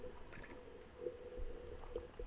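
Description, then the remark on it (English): Quiet, wet slurping of someone sipping coffee, with a few soft liquid clicks and gulps over a low steady hum; nobody speaks. “I've got to take a sip of coffee first.”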